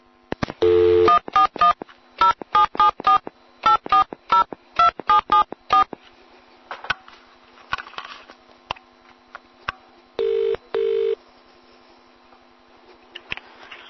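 A rapid string of about a dozen short, loud keypad tones as a phone number is dialed, each beep distinct with brief gaps, followed by quiet line noise and two more tones near the end.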